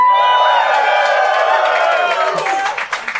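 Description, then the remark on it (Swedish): A live audience cheers and whoops loudly in response to being asked for a reaction, high shouts and yells layered over a dense roar of voices, with scattered clapping breaking through toward the end. “Vi vill ha en liten reaktion från publiken”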